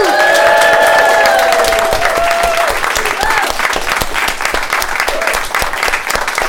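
A live audience claps loudly and continuously, a dense crackle of many hands, with whoops and cheers rising over it in the first few seconds before the applause carries on steadily.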